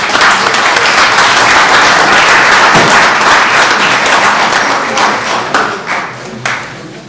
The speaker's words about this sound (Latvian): Zinām, svētki bija Edgaram Turkam, bet viņš... Uzlabo veselību, tā kā vienkārši viņam aplausu veltīsim Edgaram.